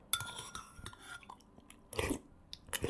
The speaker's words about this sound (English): This sound that you heard is called slurping. My little secret, sometimes I slurp when I eat soup.